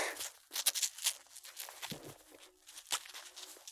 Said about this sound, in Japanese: じゃあ、今からつけていきたいと思います。よいしょ。よいしょ。最初にマジックテープをキュッと。